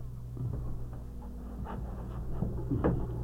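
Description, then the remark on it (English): A door is pushed shut with a soft thud near the end, after a few faint knocks and shuffles over a low, steady room hum. No one speaks. “You want to close that door?”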